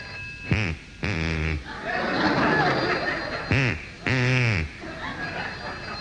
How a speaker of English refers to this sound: A man in Pevensey has taught a duck to answer the telephone. We recorded this incredible phenomenon.